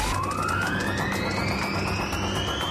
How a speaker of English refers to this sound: Jet Quad is a 2,000 horsepower, 2,000 pound thrust ATV. We basically put a jet engine on an ATV. It's capable of 200 miles an hour.